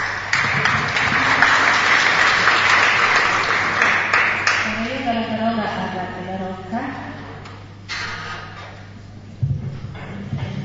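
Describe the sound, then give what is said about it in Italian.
An audience claps in a dense, steady burst for about four seconds, applauding the two authors of the works, then the clapping thins and fades as a man's voice starts speaking over a low, constant hum. “Innanzitutto un grande applauso va alle due autrici”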